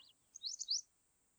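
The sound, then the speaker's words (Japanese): A bird chirps outdoors while camping, in a quick burst of high, bright twittering notes, a short trill rising and falling, fairly soft against a quiet background with no voices. “何の鳥だろうね。”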